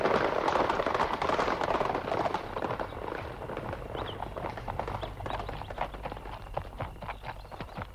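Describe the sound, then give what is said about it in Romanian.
Horse hooves clip-clop steadily on hard ground as riders mount and several horses set off together, a continuous busy patter of hoofbeats with rustling and faint background activity. “Calul măriei sale, domnița. Gata, gata. Gata, putem porni.”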